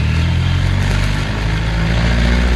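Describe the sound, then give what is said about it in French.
A car engine revs loudly and steadily, its deep harmonic drone holding and rising slightly in pitch without any talking, as the driver loses control of the car. “Ma voiture, que lui arrive-t-il ? Ma voiture, je ne la contrôle plus.”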